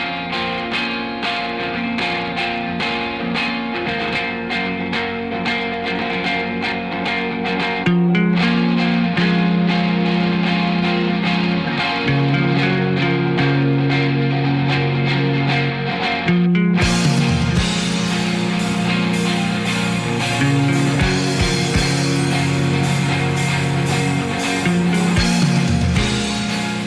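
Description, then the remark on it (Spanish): Loud, distorted rock music plays continuously with heavy, fuzzy guitars and a shifting bass line; the band grows fuller and brighter about two-thirds of the way through. No voices are heard. “Como decíamos antes, no es posible un festival que se precie de combativo si no tiene un poco de distorsión, si no tiene un poco de fuerza, de garra.”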